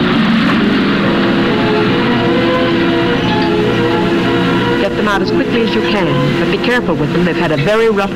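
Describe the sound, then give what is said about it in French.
A train filled with children pulls into a station at the opening of the 1947 film Les Anges Marqués, set in 1945, with a loud, continuous rumble and sustained whining tones, while a crowd of voices clamours over it, growing more animated toward the end. “Le film de 1947 débute par l'arrivée en gare d'un train, sinistre comme ceux qui emmenaient les déportés.”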